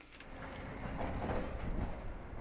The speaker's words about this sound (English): Those sounds are trucks hauling material from the Moab Uranium Mill Tailings Remedial Action Project. The U.S. Department of Energy is cleaning up around 16 million tons of uranium tailings here on the banks of the Colorado River